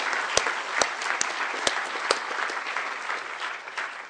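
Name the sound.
audience applause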